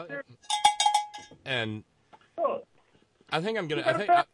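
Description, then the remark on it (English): A bell is rung with a bright, ringing metallic clang, sustained for about half a second, followed by people talking. “I think you should give yourself a bell for that.”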